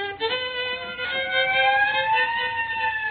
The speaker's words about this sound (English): I just started playing and already the neighbors got the police here. No, it's a squad car pulling up.